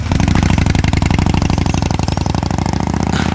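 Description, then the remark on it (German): A motorcycle engine starts and runs loud, its steady rhythmic throb filling the whole stretch as the motorcycle rides away, with no voices over it. “Also Justus, eins ist sicher. Du bekommst später kein Motorrad.”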